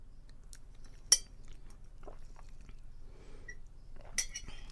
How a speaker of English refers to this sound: Took another sip of my coffee.